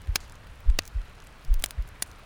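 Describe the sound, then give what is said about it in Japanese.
A close, muffled heartbeat thumps in soft low pairs at a steady resting pace, with a few faint crisp clicks scattered over the quiet background and no voices. “ねえ、聞こえる？ドキドキしてるでしょ？”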